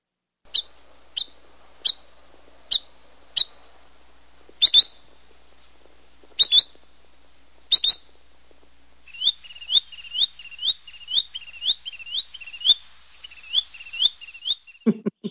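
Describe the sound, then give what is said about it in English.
A small spotted bird, a little bigger than a robin, calls with sharp, high whistled notes, first spaced evenly, then a few doubled calls, ending in a rapid-fire burst of quick repeated notes. Clear, no talking. “we have some sound to play so you can hear what this bird sounds like.”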